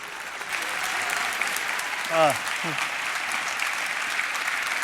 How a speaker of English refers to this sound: Please give him a great round of applause and welcome him to the stage.